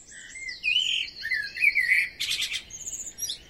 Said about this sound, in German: Folgen wir der Amsel weiter.